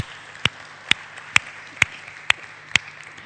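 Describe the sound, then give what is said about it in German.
Applause for the donors of a church audience, in the form of about six sharp, evenly spaced claps at a slow steady beat, each crisp and distinct, over a faint background hiss and a low hum, with no talking. “Vielen Dank und ich denke, das ist auch ein Applaus.”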